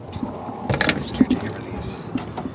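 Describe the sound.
Rustling and shuffling of a huge folder of paper files being pulled from the trunk of a car, with a few soft thumps and knocks, faint indistinct voices murmuring in the background.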